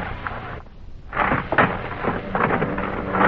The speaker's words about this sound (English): There's the plane.